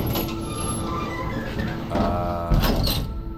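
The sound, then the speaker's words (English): Heavy elevator doors rumble shut with a clunk. Then a low motor hum and grinding rattle build as an old elevator, unmoved since the 1960s, lurches into motion going down. It is fairly loud, with no voices. “The doors close. Control panel lights up. This elevator that hasn't budged since the 60s is on the move.”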